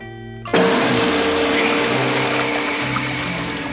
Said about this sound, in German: das Erdferkel mit Staubsauger im Rüssel.